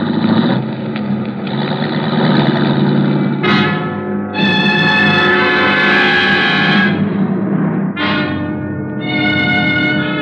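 A police car's engine rumbles steadily throughout as it careens into a driveway, then its horn blares in two long, loud blasts, the second starting shortly after the first ends. No one speaks.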